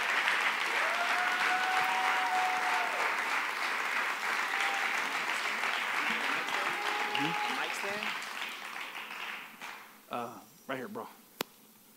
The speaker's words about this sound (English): Give the Lord a hand clap, amen, all the way from Philly.